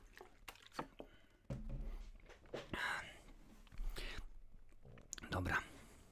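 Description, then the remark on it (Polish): Quiet sips of water followed by several wet swallows and gulps, with soft mouth and liquid noises spread over a few seconds and no talking. “Przepraszam, że dzisiaj będę przeplatał razem z wodą, bo jest gorąco, ale wiadomo jak jest.”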